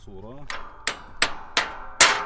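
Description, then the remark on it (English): Five sharp metallic clangs as a Palestinian olive farmer, taking a break from plowing, hammers a busted tractor part back into place, evenly spaced, each ringing briefly. A short tonal sound precedes the first blow. “takes a break from plowing to hammer a busted tractor part back into place.”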